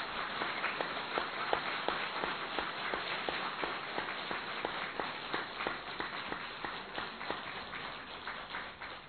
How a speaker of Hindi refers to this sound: तो थोड़ी तालियां जोरदार बजाओ जरा।